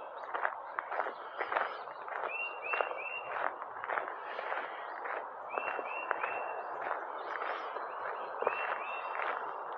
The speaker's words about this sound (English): Listen to those birds.